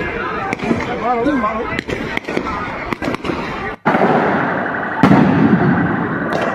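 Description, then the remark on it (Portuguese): Loud fireworks and firecrackers burst in an irregular string of sharp bangs and cracks, with voices shouting and chattering underneath, giving way to a denser, continuous crackle toward the end. “Olha, foi mais bomba do que no aniversário de Fató que cabe dele.”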